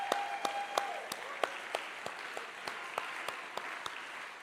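An audience claps after a song by the music team on a Sunday morning: thin, scattered applause with a soft wash of hands under distinct individual claps landing about three times a second, staying fairly quiet and even throughout.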